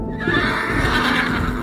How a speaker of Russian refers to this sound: слышит во сне, храпит его бурушка, ржет, копытом землю роет